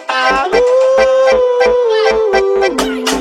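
A long, drawn-out dog howl sound effect rises, holds and then drops in pitch, set against a steady, loud thumping beat with regular sharp hits.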